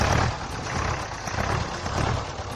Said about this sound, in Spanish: Un tractor moderno ya, ¿no? Es de los barreiros que tenemos todos en el recuerdo.